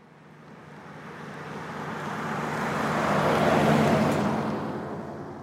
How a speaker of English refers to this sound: Every single day on my street here in Washington, D.C., I see an Amazon truck drive by. In fact, if I sit on my front stoop long enough, I can see multiple.